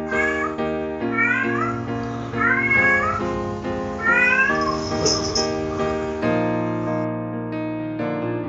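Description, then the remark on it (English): A cat in heat yowls and meows loudly, drawn-out wavering cries rising and falling in repeated waves over about eight seconds, with no talking. “Horny cat is horny.”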